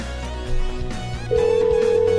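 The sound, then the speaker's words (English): A telephone rings on an outgoing call, heard through the line: a steady electronic tone starts partway in and holds, loud and clear, over a low hum with no one talking. “I'm sorry we're unable to come to the phone. Damn it. It's just busy now. Want to try one more time?”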